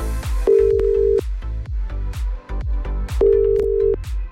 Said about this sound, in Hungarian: Valakinél viszont most én csörgök.